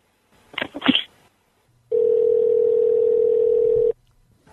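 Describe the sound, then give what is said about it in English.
A telephone dial tone: a steady, loud, mid-pitched hum held for about two seconds, preceded by a brief burst of clattery handset noise as the phone is picked up to call the police, then cut off abruptly. “I'll be calling the police right now and we'll straighten this right out.”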